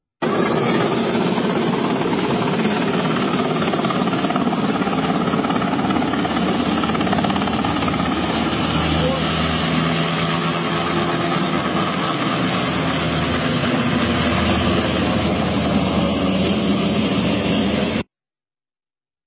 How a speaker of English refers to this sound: That is the second military helicopter that has sabotaged, the second video of a military helicopter sabotaging volunteer efforts of Hurricane Helene.